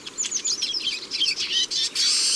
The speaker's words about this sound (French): Et puis des tarins qu'on entend bien là.